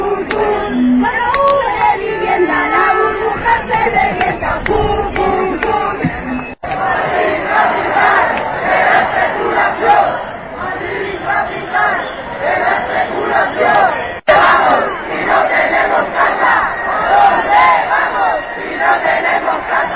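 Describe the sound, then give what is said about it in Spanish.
A large crowd of protesters chants housing and mortgage slogans in unison at the Puerta del Sol, around its Christmas tree hung with banners and flags. The chanting is loud and continuous, with rhythmic shouted phrases rising and falling over a dense wash of voices, broken by two brief cuts. “Tras los cánticos y la redecoración con pancartas y banderas del árbol de Navidad instalado en la Puerta del Sol, los manifestantes decidieron acercarse al Congreso de los Diputados, pero un cordón policial cortó el paso a escasos metros del edificio”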